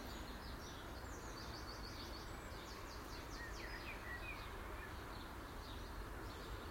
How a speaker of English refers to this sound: I will miss my bird song in the morning though, because I know where we're going and don't get that. Not to say there isn't any birds, but there isn't a dawn chorus like this.